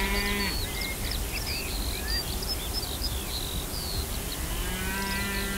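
Galloway cattle moo twice on a large open pasture of several hundred hectares with small woods, tree groups, shrubs and grassland, a low drawn-out call at the start and another near the end, with steady birdsong chirping overhead and a constant outdoor background hiss.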